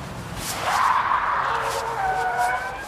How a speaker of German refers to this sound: Siehst du das Auto da, das mit den quietschenden Reifen um die Kurve fährt? Oh, jetzt hat es angehalten und jemand steigt aus.